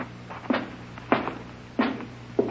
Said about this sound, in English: easy with this door, Ed. Don't let it bang.